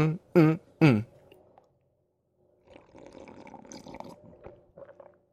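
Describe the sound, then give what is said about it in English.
Three quick, loud slurping sips of hot chai tea with vanilla soy milk, followed after a pause by a softer stretch of wet liquid gurgling and swallowing sounds. “Let me sip my chai tea here for a second, people.”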